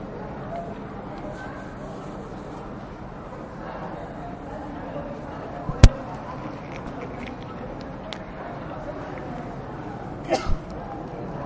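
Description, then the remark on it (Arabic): A single sharp sneeze bursts out during a lesson, over low background murmur, followed a few seconds later by a couple of quieter short sounds. “يرحمك الله.”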